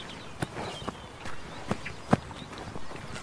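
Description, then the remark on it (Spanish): Several quick, scuffing footsteps of people hurrying down toward Jesus and Peter, uneven in rhythm and fairly soft, with one sharper step standing out near the end and no voices. “Juana y las dos Marías, precedidas de Marcián, que baja corriendo con los brazos ya preparados para el abrazo, vienen deprisa hacia Jesús y Pedro.”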